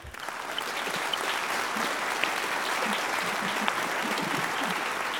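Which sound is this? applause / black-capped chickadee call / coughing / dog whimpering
applause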